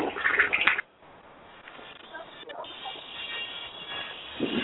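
household object, toilet flushing

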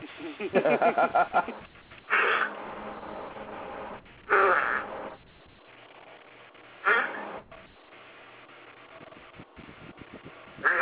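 human body sound, fart

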